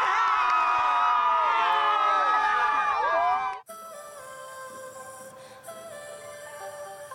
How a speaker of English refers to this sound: The crowds outside Brisbane Stadium celebrating the Matildas' best ever finish at a Women's World Cup.